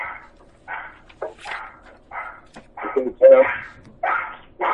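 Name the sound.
dog barking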